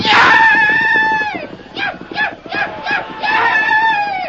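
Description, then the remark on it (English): A man, Tonto, lets out a long, loud whooping yell, then a rapid series of short, rising war-cry whoops, wild, with no other talk, while riding the horse Scout, carrying two men, at breakneck speed through a blazing town. “In the confusion, Tonto depended upon speed and his wild yells to be taken for just another Blackfoot brave.”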